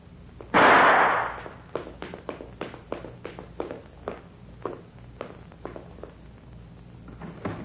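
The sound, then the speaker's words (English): A loud thump opens, followed by a steady series of sharp footsteps descending stairs, evenly paced and fairly crisp, with no voices. “I started down the stairs.”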